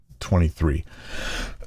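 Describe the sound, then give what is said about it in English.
Two quick, throaty coughs from a leftover lingering cough in close succession, fairly loud, followed by a raspy, breathy intake of air. “Excuse my coughing.”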